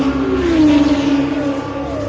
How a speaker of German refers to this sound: Ein aufheulendes Auto, das auf Kartätschen zu laufen scheint, ist schöner als die Nike von Samothrake.